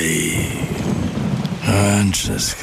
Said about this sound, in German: Regen. Ewig grau. Müssen Sie sich das anhören?